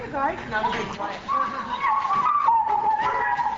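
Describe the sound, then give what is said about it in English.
Several caged greyhounds bark, yip and whine together in a reverberant kennel at a racetrack's dog adoption center, a steady overlapping chorus with one long high whine drawn out through the second half. “Here at the adoption center that Dairyland runs, a few dozen dogs in cages wait for new homes.”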